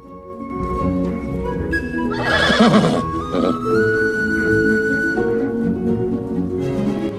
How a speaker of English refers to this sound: Black Beauty neighs and nods his head repeatedly, as if approving.